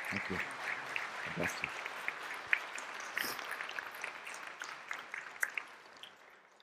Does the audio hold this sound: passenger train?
no